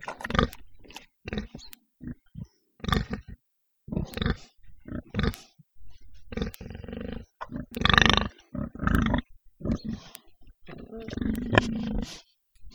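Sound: pigs grunting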